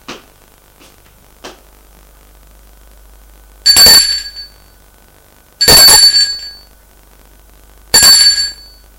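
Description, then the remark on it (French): A police officer rings the doorbell of an apartment on the top floor: three short, loud, bright metallic bursts spaced about two seconds apart, preceded by a couple of faint clicks, with no voices. “Le policier va sonner à la porte de l'appartement.”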